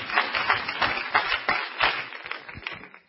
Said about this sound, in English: Let's clap our hands into the Lord tonight. Amen.